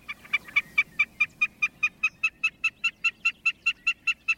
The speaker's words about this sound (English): Snipes also sing from the ground.